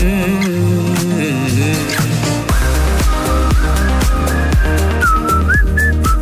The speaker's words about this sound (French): T'as entendu? D'habitude, je sais pas siffler.